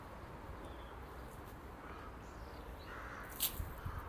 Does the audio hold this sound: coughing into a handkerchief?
no